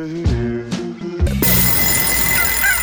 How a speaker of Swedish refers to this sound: Ja, där inne klockan och tuppen gol